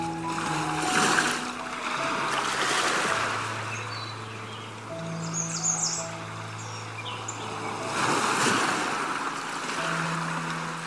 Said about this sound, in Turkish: Denizin dalgalarının ritmine uyumlanıyorsun.